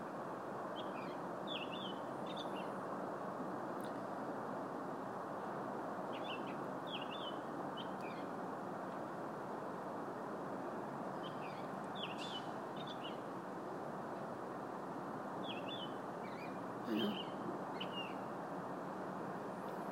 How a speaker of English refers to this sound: That's that other bird again. It has a different voice, you can tell. That one.